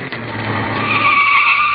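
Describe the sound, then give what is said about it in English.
A car rushes in with a rising whine and its tires squeal in a long, loud skid as it brakes to a stop at a street corner under a streetlight, with no one speaking. “And here comes a car.”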